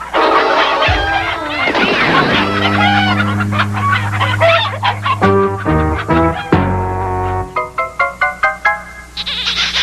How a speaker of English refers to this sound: Wow! Look at that handsome rooster.